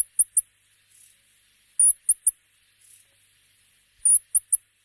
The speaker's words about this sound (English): The rock wren has one living relative, the tiny forest rifleman, which is our smallest bird. Both birds have very high-pitched calls, which don't work well on radio, but here's a rock wren call just to give you a quick sense.